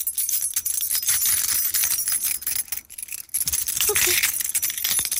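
A bunch of keys jangles and rattles continuously in a studio, bright metallic clinks shimmering throughout with a brief lull midway before the shaking picks up again.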